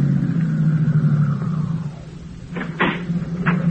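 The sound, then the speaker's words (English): A car engine, kept running because the battery is down, idles with a steady low hum throughout, joined near the end by a few short knocks or clunks, like a door or latch. “Say, my battery's down, so just keep the motor running while I'm gone, will you?”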